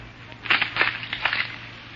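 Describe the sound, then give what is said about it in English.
Several sharp wooden snaps and cracks in quick, uneven succession as Chiricahua council members break their arrows to give consent. They play over a low steady hum with no talking. “If so, break your arrow.”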